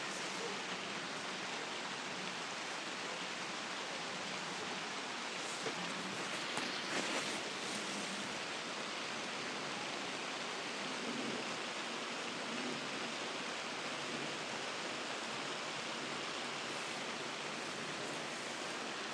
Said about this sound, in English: probably plastic and canvas mixture, and it's about 12 foot by 12 foot with a door at either side and a wooden floor built in. But the rain always sounds a lot worse on the roof, but it is quite heavy outside.